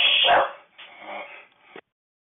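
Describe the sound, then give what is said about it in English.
Dogs bark and whimper at thunder and lightning during a thunderstorm in three quick bursts: a loud yelping bark first, then two softer, whiny cries, without any talking. “thunder and lightning my dogs don't like.”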